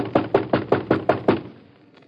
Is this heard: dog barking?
no